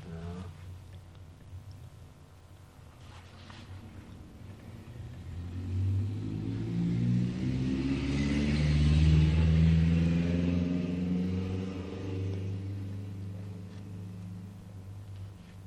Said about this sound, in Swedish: Man får vänja sig vid biltrafiken. Ja då. Nu är det inte så farligt.